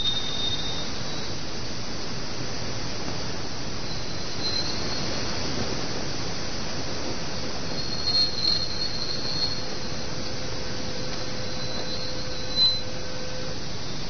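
A steady, dense wash of whooshing noise, a sonified recording picked up by the Voyager 1 spacecraft passing through Jupiter's magnetosphere, with a faint sustained tone running through the middle and a few brief high chirps toward the end; the tone at the end is the spacecraft's own electronics.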